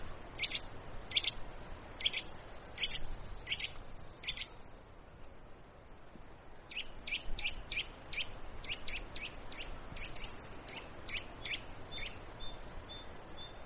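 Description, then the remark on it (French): A Eurasian nuthatch calls in two runs of sharp, repeated whistled notes, a short evenly spaced series and then a longer, quicker one, clear over a soft outdoor background hiss. “Ah là, c'est la citelle.”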